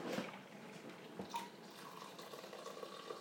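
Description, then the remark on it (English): Tea being poured: a steady, soft stream of liquid trickling and splashing for about three seconds, with a faint brief clink partway through and no talking. “Pour my tea.”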